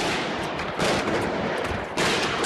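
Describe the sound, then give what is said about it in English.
Rapid automatic gunfire from masked gunmen inside a magazine's offices in Paris crackles in dense, sustained bursts, harsh and distorted as recorded on a journalist's cell phone, with a brief lull before another loud volley. No voices are heard. “A journalist's cell phone captured the sound of the killing rampage”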